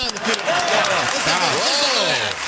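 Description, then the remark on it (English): A steady, dense wash of clapping from an audience, giving a round of applause to the man who runs the Facebook page, lasts the whole moment, with voices calling and talking over the applause. “Do you mind if the audience gives you a round of applause?”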